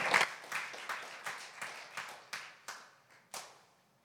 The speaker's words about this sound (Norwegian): Skal vi gi han en liten klapp på vei opp?